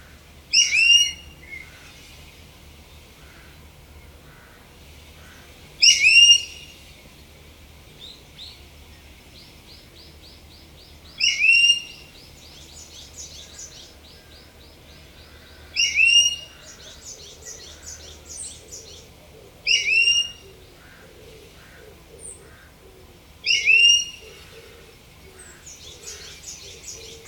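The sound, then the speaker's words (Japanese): An Ishigaki brown-eared bulbul calls six times at roughly five-second intervals, each loud, shrill, high-pitched burst standing out over softer chattering and a faint low hum of background. “石垣ヒヨドリと本州のヒヨドリの鳴き声を比較すると、石垣ヒヨドリの方が全体に高い音で鳴いていました。”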